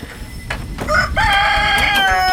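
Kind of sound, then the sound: bird, rooster crowing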